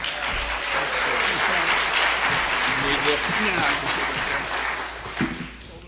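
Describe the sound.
An audience claps steadily in a dense, hissing wash of applause that holds strong for several seconds, with faint voices and cheers mixed in, before tapering off toward the end.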